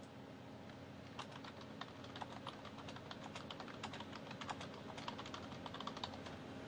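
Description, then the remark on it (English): Computer keyboard keys clatter in a steady, fast run of typing, sharp clicks repeating over a low background hum, moderately loud with no voices. “You heard the clattering of the keys.”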